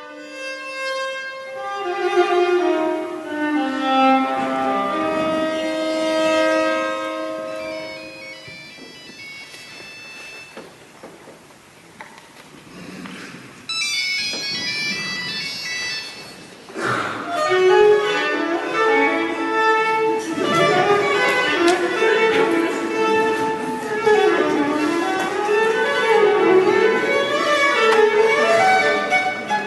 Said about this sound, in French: D'ailleurs, il est amusant d'entendre cette sonnerie jouée à la manière d'une suite de Bach, puisque saviez-vous que cette petite phrase musicale vient à l'origine tout droit du classique.